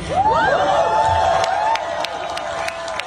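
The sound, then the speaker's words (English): A rally crowd at a Kamala Harris campaign speech cheers loudly and steadily, with many overlapping shouts and whoops rising and falling over a dense roar, punctuated by a few sharp claps or bursts. “Wow, what an enthusiastic crowd.”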